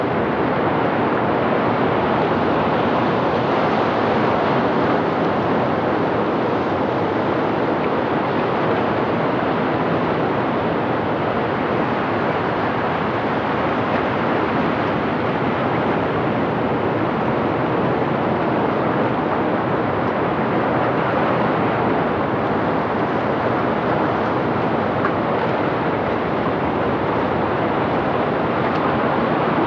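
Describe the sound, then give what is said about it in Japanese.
Outdoor ambience on the coast at Yuriage, Japan, with a steady, unbroken wash of surf filling the air for the whole stretch, fairly loud and even, with no voices. “閖上です。”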